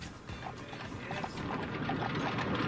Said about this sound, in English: Ooh, here she comes down. The horse is bringing her in.